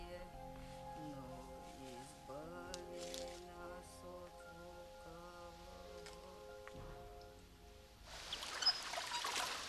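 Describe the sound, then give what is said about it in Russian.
Oars dip and water sloshes in a steady swish near the end, after a long stretch of sustained tonal music, as a rowing boat carrying a man and a girl of about nine arrives below a monastery. “приплывают на лодке под монастырь.”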